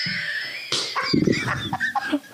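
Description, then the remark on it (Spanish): A rooster crows, a strained, drawn-out call that breaks into rougher, choppy squawks near the end, with no talking underneath. “Y el gallo aquí, fumando. El gallo aquí.”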